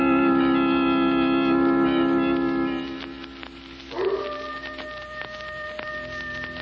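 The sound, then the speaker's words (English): A coyote's long, drawn-out howl rises and wavers over a steady hiss like falling rain, then fades before a second, thinner cry rises. It sounds distant, coming from the hills near a village. “Not a sound anywhere, Lamont, except that coyote off in the hills.”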